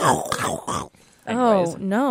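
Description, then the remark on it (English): A voice mimics a crunch with a few raspy, noisy bursts, pauses briefly, then adds a sliding, wavering vocal tone. Fairly loud, with no other sounds around it. “We need like a graphic, like the Must Hear Music. The Must Hear Music Double Dip, and then like the crunch sound”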